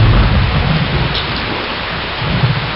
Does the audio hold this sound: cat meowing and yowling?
no